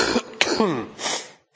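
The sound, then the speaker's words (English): A harsh bout of coughing: several rough bursts in quick succession followed by a throaty, wheezy exhale, then a brief pause before another cough starts. “Been a hard week for my cough this week.”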